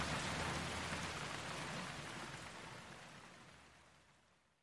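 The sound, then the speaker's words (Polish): Heavy rain from a downpour drums steadily on a roof in a dense, constant hiss, loud, with no thunder, then gradually fades away over the last couple of seconds. No voices. “Deszcz dudnił o dach. Na zewnątrz lało jak z cebra, ale nie grzmiało już.”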